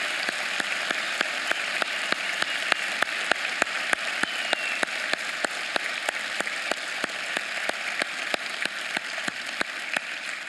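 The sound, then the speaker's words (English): Sustained applause from a large church audience at its Centerville, Northmont and Classics campuses, welcoming the new Springboro campus. A dense, steady wash of many hands clapping at once, evenly loud throughout with no voices rising above it. “So Centerville, Northmont, Classics, would you give them a huge round of applause as they begin today?”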